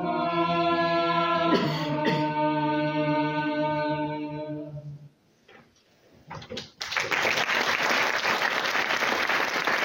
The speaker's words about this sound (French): Voilà, applaudissements nourris pour la représentation d'hier soir de ce quatrième mur.